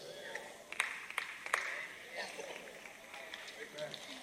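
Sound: single hand clap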